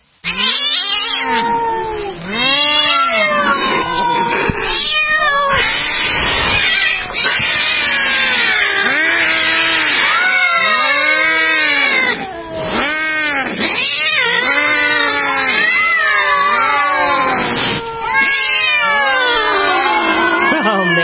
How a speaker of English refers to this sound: It's frightening. It's like an episode from the old Catwoman days. Remember they used to have that sound of all those cats going after each other? When Halle Berry played Catwoman, it sounded like that.